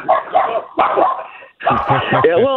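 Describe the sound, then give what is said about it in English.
A dog barks and yips in three loud bursts separated by brief pauses, the last burst with higher, whining yelps. “I get a little some dog activity”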